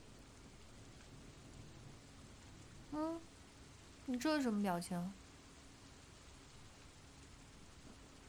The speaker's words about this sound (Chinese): 哇，下雨了耶！